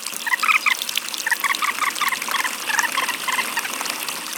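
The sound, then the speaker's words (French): Water pours steadily into barrels, a continuous splashing gurgle that lasts throughout, with short bursts of high chirping calls repeating over it. No one speaks. “De l'eau ! De l'eau ! Remplissez vite les tonneaux !”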